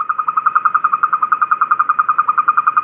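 A boreal toad calls in a steady, rapid trill of bright, mid-pitched chirps, about ten pulses a second, holding the same pitch and loudness throughout with no voices present.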